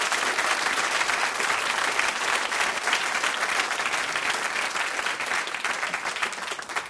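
Steady, dense applause from a live radio show audience fills the whole stretch, a broad crackle of many hands clapping at a fairly even, loud level before tapering slightly at the end.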